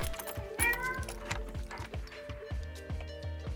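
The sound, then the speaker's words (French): A key turns in a door lock to lock the door, giving a run of dry mechanical clicks and ratcheting ticks in a steady rhythm, fairly quiet, with a faint background hum. “La clé qu'on tourne pour fermer la porte.”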